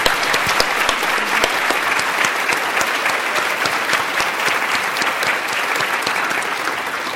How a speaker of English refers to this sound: But let's do a round of applause before we do that.